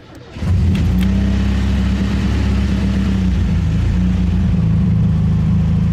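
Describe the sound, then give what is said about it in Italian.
A Suzuki car's engine cranks briefly and catches after half a second, then runs on as a loud, steady, low rumbling hum on a hot August day, with no one talking. “Torno indietro a dare un bacio ad Antonia e metto in moto.”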